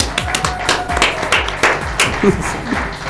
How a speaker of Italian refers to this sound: Un grazie, un applauso di là dal vetro.